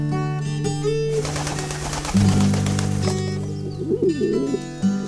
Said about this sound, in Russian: А я не то, что птиц всегда любила, но вот под крышей песня голубина, но вот гудение, что ли, низких нот, меня разобрало до самой сути